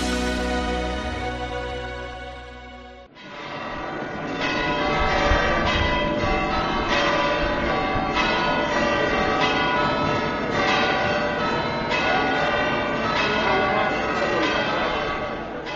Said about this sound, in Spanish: El repique de campanas y la llegada escalonada y con invitación para poder acceder a una catedral con aforo limitado y poder participar en la misa de entrada e inicio del ministerio pastoral en la diócesis del nuevo obispo